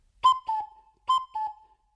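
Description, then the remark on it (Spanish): A cuckoo call blown through cupped hands, thumbs pressed together leaving a small hole, lips at the hole: two breathy hooting notes, the second slightly lower, repeated twice and starting a third time, clear, with short gaps between. “Y ya puedes hacer, por ejemplo, el cuco.”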